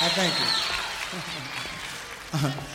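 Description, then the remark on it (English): An audience claps steadily for the orchestra in a dense, sustained wash of applause, while a man's voice talks over it and rises again near the end. “We'd also like to have you give a fine round of applause for this fine orchestra, ladies.”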